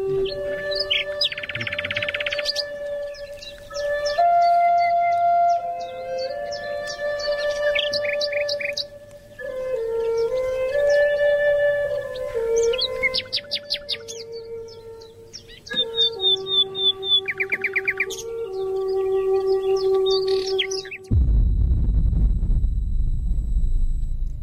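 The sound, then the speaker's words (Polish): The opening jingle of Społecznicy Online, a show about social media on Wolny internet radio w net: chirping, warbling synth tones and gliding melodic lines play without any voices, then end abruptly in a loud, deep, rumbling explosion-like blast. “to posłuchajmy sygnałówki w takim razie, od początku zaczniemy.”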